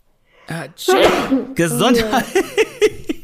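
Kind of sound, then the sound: human body sound, sneeze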